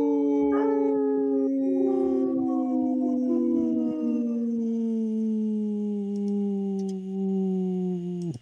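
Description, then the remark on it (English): On the radio show Native Roots Radio Presents I'm Awake, a person imitates a wolf howl for a segment sponsored by Howling for Wolves. It is one long, loud, sustained wailing tone that starts high and slowly slides downward for about eight seconds, unaccompanied. “This portion of the show is brought to you by Howling for Wolves, protecting wolves for future generations. Howl!”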